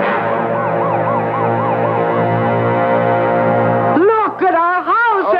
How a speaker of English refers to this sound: Oh, my, what's that? We better get over to the curb fire engines. Oh, I wonder where they're going. Hey, look, they're turning the corner, going down the block.